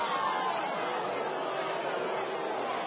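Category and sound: crowd, audience booing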